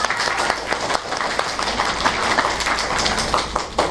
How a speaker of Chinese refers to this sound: 所以让我们给自己一个鼓掌好不好。